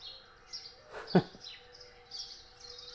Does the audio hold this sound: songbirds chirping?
yes